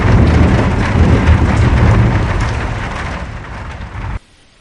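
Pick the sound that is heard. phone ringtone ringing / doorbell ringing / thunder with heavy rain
thunder with heavy rain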